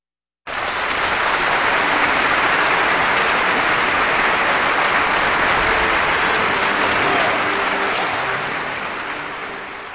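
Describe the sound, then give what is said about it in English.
Sustained applause from a large concert audience for the Vienna Philharmonic Orchestra and conductor Carlos Kleiber after Johann Strauss Jr.'s waltz At Home With Us, a dense, steady wash of clapping that starts abruptly and slowly tapers near the end, with no voices. “That applause for the Vienna Philharmonic Orchestra and conductor Carlos Kleiber in the waltz At Home With Us from Johann Strauss Jr.”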